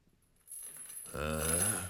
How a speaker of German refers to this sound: plötzlich vernahm er ein klirrendes Geräusch. So als ob jemand Ketten über den Kellerboden ziehen würde.